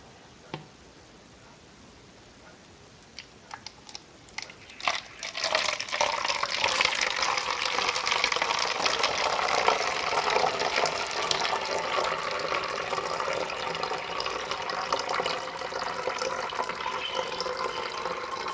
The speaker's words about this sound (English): Film stop bath. I'm going to pour that in the bottle I labeled stop bath.